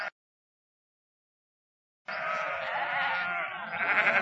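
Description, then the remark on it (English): A sheep bleats loudly after a couple of seconds of silence, one long, quavering cry that wavers in pitch and runs on for about two seconds. “He looked after sheep.”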